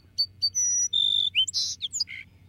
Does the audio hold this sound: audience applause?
no